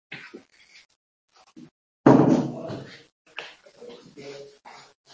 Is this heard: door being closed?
yes